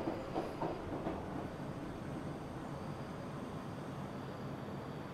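A subway train in Tokyo rumbles steadily along the rails, a dense, continuous roar with a few faint rhythmic clacks near the start, heard from inside.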